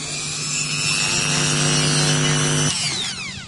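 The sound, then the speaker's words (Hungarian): A small power tool whines steadily with a harsh grinding rasp as a glass bead is ground with running water in a glass-bead-making workshop, then winds down as the motor slows near the end. Fairly loud, no voices. “Viszont a csiszoláshoz vizet is kell használnunk. Most akkor ezt a gyöngyöt kicsiszolom.”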